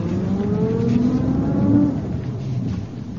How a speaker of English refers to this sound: There's another Rolls pulling up outside the town hall. That'll probably be the mayor's car.